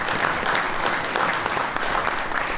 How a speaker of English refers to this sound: But if you'd please be kind enough to give the panel a round of applause.